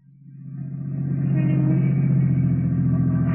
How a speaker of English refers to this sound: There's a parking space. All right, pull in. Now turn off the motor.